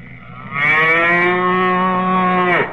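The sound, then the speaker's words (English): A single long, loud cow moo rises sharply and holds steady for about two seconds before dropping off at the end, with no talking. “You're going to put a cow in our backfield?”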